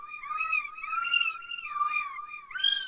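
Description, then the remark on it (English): A synthesized cat meow, smooth and electronic in tone, holding a steady, wavering pitch for about three seconds before jumping higher at the end. No one speaks. “And then, of course, everybody's favorite, the cat.”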